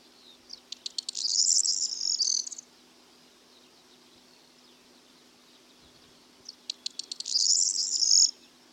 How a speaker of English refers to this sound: Corn bunting is a sparrow-sized streaky brown bird of hedgerows and farmland that feeds on seeds and invertebrates. In the winter, it will join mixed flocks of buntings, finches and sparrows to feed on seeds on farmland.